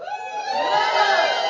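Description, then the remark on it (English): A church audience erupts in loud, sustained joyful shouting and cheering in praise, a dense wall of excited yelling that holds steady and swells slightly for over a second. “It says in Psalm 100, verse 1 and 2, make a joyful shout. Somebody shout.”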